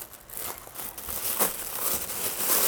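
Paper packaging around artwork is pulled open, with a steady run of dry rustling and crinkling, small crackles and tears building slightly louder toward the end, and no voices.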